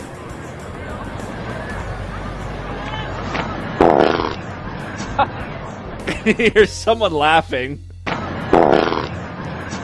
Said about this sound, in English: And then there's a shot of … laughing. He obviously was the one who farted. Nice ripper.